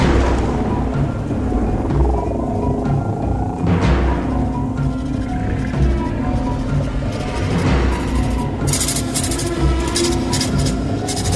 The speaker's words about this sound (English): And we're back for the storm.